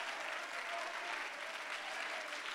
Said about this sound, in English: If you believe that, you ought to clap your hands and lift up a shout of praise that you're a part of the church.